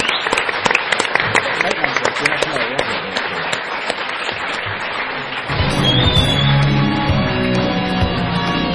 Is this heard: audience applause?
yes